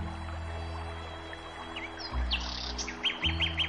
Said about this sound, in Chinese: 窗前，枝头鸟儿鸣叫，欢快着春天的脚步。